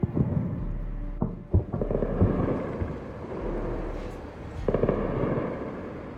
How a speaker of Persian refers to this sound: از دقایق قبل شاهد برخاستن ستون‌هایی از دود در نقاطی از شهر تهران هستیم در پی شنیده شدن صدای چند انفجار.